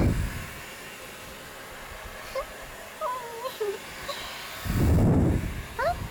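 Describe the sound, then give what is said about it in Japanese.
A steady, breathy whoosh of a hair dryer drying someone's hair after a bath runs through the whole clip, with a louder rush of air near the end and soft vocal murmurs drifting over it. “お風呂上がりにはちゃんと髪の毛を乾かさないとね。”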